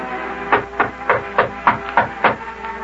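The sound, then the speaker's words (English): Someone knocks on the mayor's door about seven times in a quick, steady rhythm, each rap a sharp, fairly loud thud over a faint background hum, with no talking. “Well, go ahead and knock there,”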